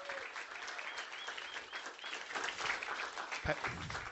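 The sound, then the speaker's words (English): A crowd applauds a group of students with steady, dense clapping that holds at an even level throughout, with faint voices and cheers mixed into the noise. “And so with that, I'll give another hand clap for these amazing students.”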